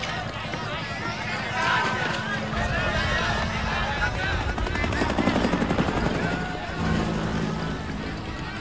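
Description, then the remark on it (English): Military helicopters of the First of the Ninth air cavalry, escorts to the mouth of the Nung River in Vietnam, pass overhead, their rotors chopping in a steady, loud throb that swells midway through, with indistinct voices and commotion mixed underneath. “First of the ninth was an old cavalry division that had cashed in its horses for choppers and gone terrassing around Nam looking for the shit.”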